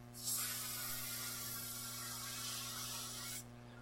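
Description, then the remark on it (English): A steady, breathy rush of air as people blow into balloons, lasting about three seconds before cutting off abruptly, with a low electrical hum underneath and no talking. “Put all of our worries in this balloon. Just blow it up and hold them”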